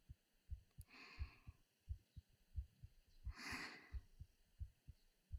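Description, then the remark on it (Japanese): A steady heartbeat thumps in a regular rhythm while two people hold each other in a hug, with soft breathing sounds rising and falling over it twice. “こうして抱きしめ合ってるとドキドキするね。胸のキュンキュンやばいのわかる？”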